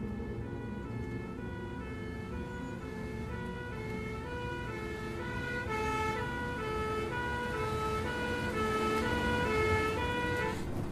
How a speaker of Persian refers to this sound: الان آمبولانس میرسه، دارم میان